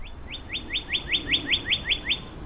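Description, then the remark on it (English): A bird chirps in the branches of the Harvard Forest in New England under a perfectly clear, sunny sky, in a quick, steady series of about ten bright rising notes, clear over faint outdoor ambience, with no one talking. “Birds chirp in the branches above, and the sun shines in a perfectly clear sky.”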